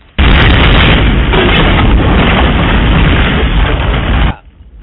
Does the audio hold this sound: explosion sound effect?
yes